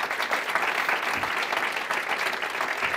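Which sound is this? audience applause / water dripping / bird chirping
audience applause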